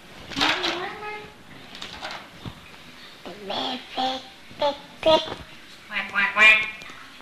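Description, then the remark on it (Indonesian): A voice imitates a duck's quacking in a series of short, nasal bursts, repeated several times in an uneven rhythm, moderately loud. “Bebek. Bebek apa bebek?”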